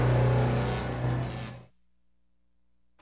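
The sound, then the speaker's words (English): A new car's engine revs loudly for about a second and a half with a steady low hum as it arrives, then cuts off abruptly, leaving near silence. “And today, you're showing up in your new car and telling me you're buying a house?”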